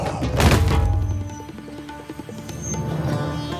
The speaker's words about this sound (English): The prince stood steady, training his eye on the dark creature. He tracked it. Then, when he had a sense of its speed, he released the arrow. And an instant later, the creature fell to the ground.